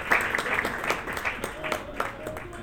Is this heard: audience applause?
yes